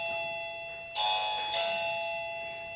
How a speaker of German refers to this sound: Warum klingelt das denn jetzt nochmal? Ja, ich habe keinen bestellt.